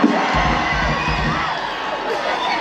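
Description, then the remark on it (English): An audience at a show cheers and shouts in a steady, dense roar of many voices, with whoops rising above a broad wash of crowd noise that holds loud throughout. “Exactly, just cheer.”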